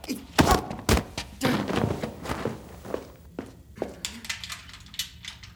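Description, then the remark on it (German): Someone tries to pick a door lock: irregular metallic clicks, scrapes and dull thunks, busy at first and then sparser, with no talking. “Du bringst uns beide um, wenn du das Schloss knackst. Geht eh nicht. Krasses Schloss.”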